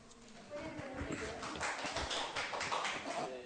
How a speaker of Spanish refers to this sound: Aplausos.